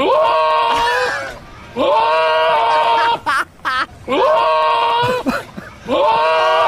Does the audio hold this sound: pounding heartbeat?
no